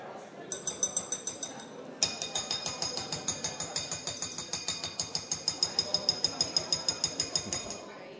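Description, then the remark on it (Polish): A small hand bell is shaken steadily for several seconds to call council members to order and to their seats at a session, a bright, high metallic ringing in quick, even strokes that grows louder partway through, with a murmur of voices underneath. “Dzwoneczek jest niezbędny.”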